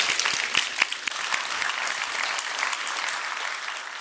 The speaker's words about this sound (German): Und ich darf Sie nochmal um einen abschließenden Applaus für alle Beteiligten bitten.